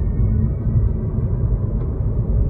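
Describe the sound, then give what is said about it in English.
A steady, low vehicle hum and rumble rolls on without a break, like an electric car whirring along as it drives, fairly loud with no voices. “The car sounds futuristic. My coworker watched me drive away and then texted, "It sounds like the Disney monorail."”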